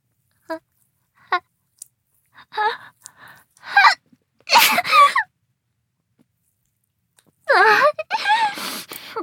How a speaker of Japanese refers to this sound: くしゃみが嬉しいんですか？顔にくしゃみかけられるのがですか？